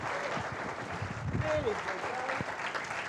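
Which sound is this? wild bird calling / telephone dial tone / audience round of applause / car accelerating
audience round of applause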